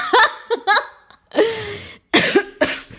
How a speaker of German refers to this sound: Oh. Ja, du hustest, ich huste, du rülpst. Das war jetzt eine Ablenkung.